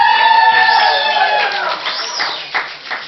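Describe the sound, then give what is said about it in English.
A church crowd cheers for Jesus at the preacher's call, many high-pitched voices yelling and whooping together in a sustained burst that gradually thins out over a few seconds. “All right, cheer for Jesus.”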